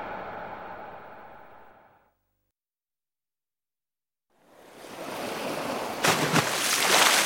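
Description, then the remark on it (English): Ocean waves wash in a steady hiss, fade to a brief silence, then surge back louder, with a couple of crashing breakers near the end. No voices. “is in the sea.”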